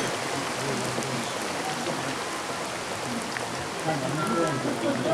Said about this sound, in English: And never to have had to listen to rain, so much like politicians' speeches.